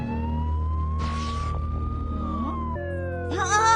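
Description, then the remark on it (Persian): A voice imitates a police siren, holding a steady, loud wailing tone that slowly rises and falls in pitch, with breathy hiss bursting in partway through and a quick warbling flourish at the end. “صدای آجیر پلیس، ولی این بیرون که کسی نیست.”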